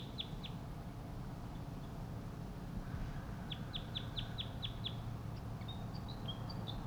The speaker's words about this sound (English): There are four crossbills that are wild. One wild male and the other wild male above me calling. The tooping call from one of the wild birds.